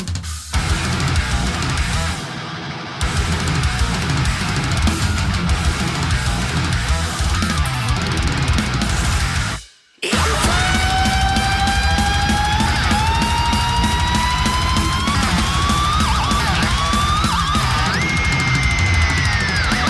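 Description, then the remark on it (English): A loud, dense heavy metal track with distorted guitars and driving drums. After a split-second break midway, high, whinnying guitar slides wail over the thick wall of sound. “Some great like guitars, you know, that sort of like horse sounding sort of thing.”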